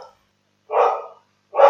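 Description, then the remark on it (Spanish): A neighbor's dog barks in short, hoarse bursts, about three barks separated by brief pauses, fairly loud, with no talking. “Pero hace un día cerrar la ventana porque el perro del vecino está ladrando.”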